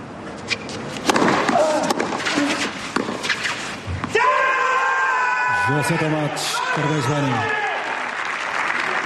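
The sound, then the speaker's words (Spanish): A crowd roars and applauds on a tennis court after the last point of a five-hour match, then the winning tennis player lets out a long, loud, strained victory yell in several bursts, his voice rising and falling over the cheering arena. “Así se grita nada menos cuando te tiras 5 horas pegándole raquetazos a la bola.”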